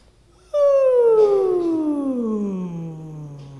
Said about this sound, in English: And now we're going to do it with that noise. And I want you, when you hear the sound, to follow the feeling of that sound as it goes from your head down into your stomach. And so we'll do a whoo when we do it, okay? So breathing in.